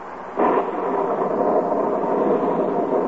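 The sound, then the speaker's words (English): Steady rain pours down outside a cabin on the shore of Lake Wapahokee in duck hunting country, a dense, continuous hiss that swells in abruptly after a brief quieter moment, then holds at an even, fairly loud level with no voices. “Inside this cabin are three mighty hunters. Three mighty disgusted hunters. Because outside the cabin, it's raining.”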